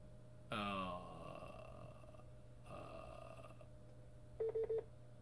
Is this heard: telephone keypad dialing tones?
yes